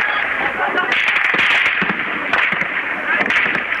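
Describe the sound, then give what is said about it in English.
Scattered sharp cracks of gunfire in Syria, several irregular shots as security forces in civilian clothes open fire on demonstrators, over a harsh, noisy background of shouting voices and crowd commotion as people carry a victim, recorded loud and distorted. “A video obtained by Al Jazeera shows some people lugging a victim amid the gunfire”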